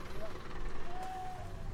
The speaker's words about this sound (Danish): Følelsen af kosmisk samhørighed bliver afbrudt af lyden af en motor. Nu kommer transportmanden, der skal køre lammen afsted til slagteriet.